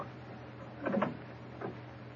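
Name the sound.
door being opened carefully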